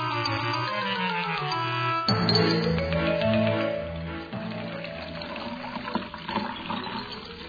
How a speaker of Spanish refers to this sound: Llena un vaso de agua hasta el borde.